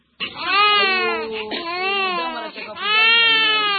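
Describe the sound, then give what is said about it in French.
An infant cries loudly in long, wavering wails, three sustained bursts with brief breaths between, heard alone in the pediatric hospitalization ward of Il Africa hospital in Goma. “Nous nous trouvons là, dans la salle d'hospitalisation pédiatrique de l'hôpital Il Africa de Goma.”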